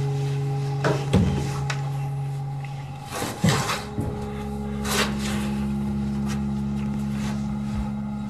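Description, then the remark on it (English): A door is unlocked with keys and opened: a few sharp metallic clicks and clunks at uneven intervals, over a steady low mechanical hum with no talking. “Get the keys. Open the door.”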